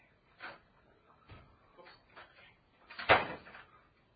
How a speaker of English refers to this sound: Let me just open that door so I don't have to use the key.